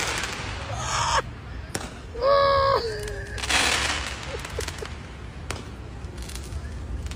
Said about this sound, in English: But this does show how people feel about Donald Trump. People are shooting fireworks towards the Trump building.